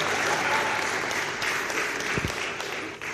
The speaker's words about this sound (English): Wow! Get a round of applause.